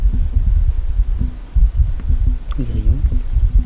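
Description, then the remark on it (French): A steady high drone of insects and flies, like crickets or cicadas, pulses faintly through an outdoor scene with birds, mixed with rumbling low sounds and a brief harmonic voice-like call near the end. “On entend. On voit pas. T'as vu quoi avec tes oreilles? Presque mille. Des insectes. Des oiseaux. Mouches.”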